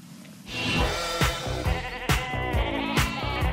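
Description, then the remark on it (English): Sheep bleat loudly, their wavering, nasal cries overlapping for a few seconds, with a few sharp knocks or clatters punctuating the calls. “Then there was a national knitting night, which started, of course, with shearing the sheep.”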